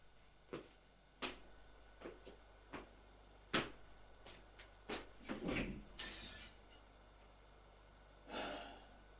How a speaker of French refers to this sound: Lève. Il va ouvrir la porte.